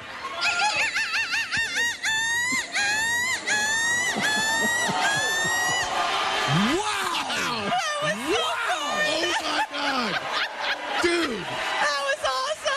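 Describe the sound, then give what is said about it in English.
A woman imitates a seagull with a rapid series of shrill, rising-and-falling screeches, loud, in a seagull screech contest judged by the crowd, then the crowd bursts into cheering, laughter and whoops. “Give us your best seagull screech.”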